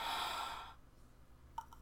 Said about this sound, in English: Gasp and moan.